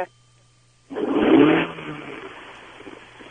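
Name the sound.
car engine revving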